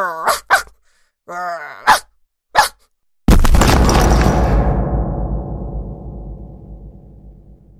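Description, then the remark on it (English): A dog barks several times in quick, sharp, clear bursts, then a sudden loud crashing rumble takes over and slowly fades. “So I stand and I bark.”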